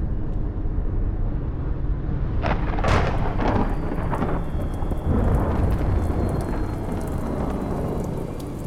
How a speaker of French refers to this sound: J'aime la pluie et les orages. Ils démontrent la puissance chaotique au sein de la nature.